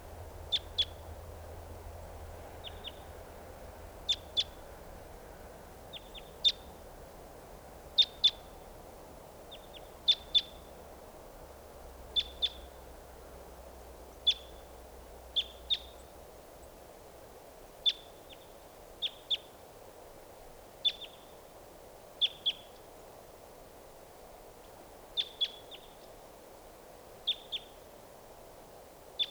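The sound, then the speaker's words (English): A lone female wild bird at a bird-netting site repeats short, high-pitched chirps, often doubled, at fairly regular intervals of a second or two, over a steady low background hum with no talking. “Here's a wild bird.”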